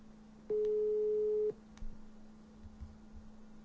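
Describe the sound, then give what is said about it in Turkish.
A phone ringback tone sounds once, a steady one-second electronic beep heard clear through the line, then fades to quiet line hiss while the call goes unanswered. “Oğlum bu ne telefonu açmıyor?”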